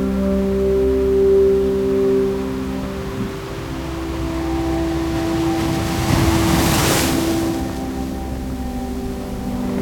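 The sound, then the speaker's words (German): Ocean surf rushes in a steady wash, with one wave swelling louder and breaking around the middle before receding, under a low, sustained tonal hum. “Spüre, wie dein gesamter Körper gereinigt wird von den Wellen des Ozeans.”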